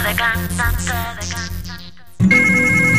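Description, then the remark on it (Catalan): A telephone rings with a bright, warbling electronic trill repeating in quick bursts, then abruptly shifts to a different steady, buzzing ring tone, loud with no talking. “Tens molts telèfons per demanar menjar.”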